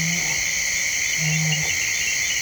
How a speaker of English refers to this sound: The nighttime world along the forested River Mara is wide awake with giant flying insects, chirping bats, chiming frogs, and the occasional hungry hippo.